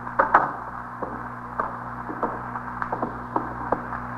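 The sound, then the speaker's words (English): A door closes with a sharp latching clack near the start, followed by a series of faint, evenly spaced clicks over a steady low electrical hum; no one speaks. “Close the door”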